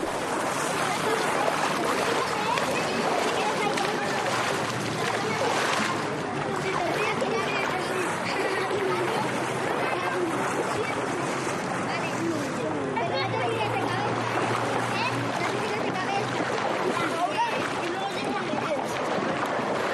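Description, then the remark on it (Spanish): Steady splashing and churning water fills the scene, with a busy wash of indistinct voices echoing throughout, like a crowded swimming pool. “Pues mira, este podría ser perfectamente el ambiente que viven en esta asociación que se llama Natacción, Nat-Acción, y en la que ayudan a mucha gente, pero a través del agua.”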